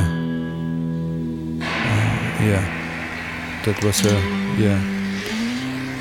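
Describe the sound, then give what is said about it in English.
A deep, low note on a guitar, one of the deepest possible on the instrument, rings steadily for over a second, followed by a run of shifting, gliding low tones that bend up and down in pitch, fairly loud throughout. “definitely a deep note on the guitar, definitely one of the deepest notes on the guitar possible.”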